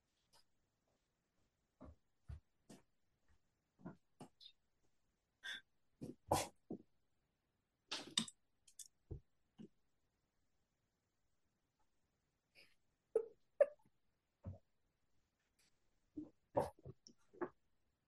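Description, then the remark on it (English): A female dog whimpers and snuffles in short, scattered bursts with pauses between them, fairly quiet, with no one talking. “You got to give me a second because my dog, she knows how to open the door.”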